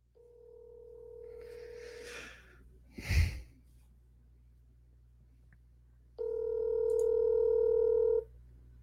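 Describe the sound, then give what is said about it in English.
Two long ringback tones play over a speakerphone, each buzzing steadily for about two seconds with a quiet gap between them. A short breathy sigh or exhale sounds in that gap. “Let me call him right now. Call him right now. I'm going to call him right now.”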